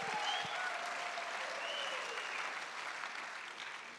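An audience applauds themselves and their spiritual leader, a reverend, in a steady round of dense, overlapping clapping that holds fairly loud throughout, easing slightly toward the end, with no voices standing out.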